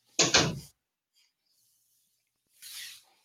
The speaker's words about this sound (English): He even closed the door for us.